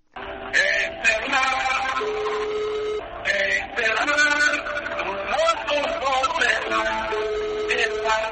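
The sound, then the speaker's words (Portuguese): A tinny, band-limited song plays over a phone line as the ringback tone heard when calling the mobile phone of an MPLA party member, with singing voices and melodic music continuing steadily at moderate loudness for several seconds. “É desta forma que muitos militantes ainda se apresentam quando ligas aos seus telemóveis.”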